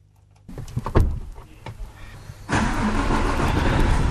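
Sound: truck engine running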